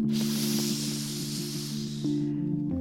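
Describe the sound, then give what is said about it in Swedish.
A steady, airy hiss of breath drawn in through the tongue rolled into a small tube, done as a breathing exercise, lasts a little over two seconds, then cuts off. A low, constant hum sits underneath throughout. “så kan du gå vidare och forma tungan till ett litet rör som liksom suger in andetaget.”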